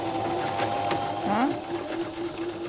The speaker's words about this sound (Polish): To w ogóle nie jest ten wspaniały dźwięk, jaki daje zwykła maszyna do szycia, bo ona działa jako robot właściwie, ale szyje bardzo dobrze.